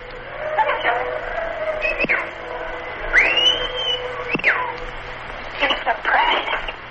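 A pet starling named Mary Jane whistles along to music in a tape recording, its clear rising and sliding whistled notes standing out over a steady, radio-like musical background at moderate loudness.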